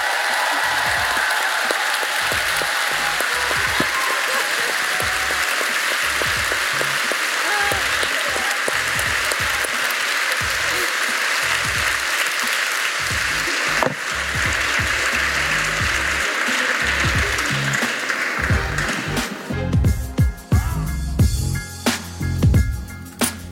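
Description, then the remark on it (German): Loud, sustained applause from an audience, a dense wash of clapping lasting over twenty seconds, with heavier rhythmic thumping and drumming breaking through near the end. “Laut klatschen, trommeln, was auch immer.”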